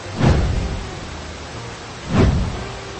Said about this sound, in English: Listen to the thunder. I hear it. And I can see lightning too. I don't like this storm.